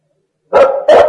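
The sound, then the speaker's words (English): A dog barks twice in quick succession after a brief silence, the loud barks standing alone with no talking. “Dogs are very useful.”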